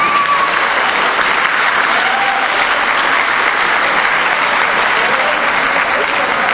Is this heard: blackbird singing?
no